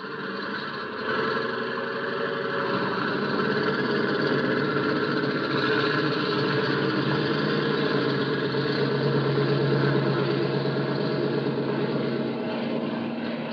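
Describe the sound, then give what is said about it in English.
A small trainer plane's propeller engine roars steadily through a takeoff roll on a runway after a green-light clearance from mobile control, a loud, continuous droning hum with layered tonal buzz that holds nearly constant throughout; no one speaks. “They just gave us a green light, so we're clear to take off.”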